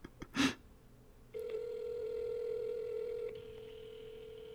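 A click, then a steady, unbroken telephone line tone that hums on for several seconds and drops slightly in level near the end, with no voice picking up.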